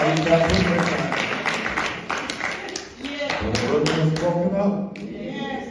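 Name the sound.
audience clapping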